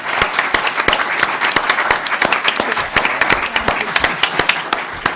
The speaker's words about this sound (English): Well, I'd like to another round of applause for our panelists.